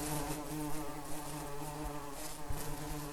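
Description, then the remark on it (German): A dense, steady hum of many honeybees buzzing together inside a hive, a continuous droning swarm with layered tones and no pauses, fairly loud, with no voices. “das hier ist unser Zuhause, der Bienenstock. Wir sind eine große Familie.”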